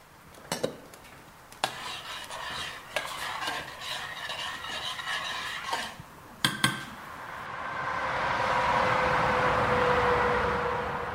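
Kitchen sounds of cooking: a spoon stirring and scraping in a pot with sharp metallic clinks of pans and utensils, then a steady sizzling hiss from the stove takes over, close by and with no talking.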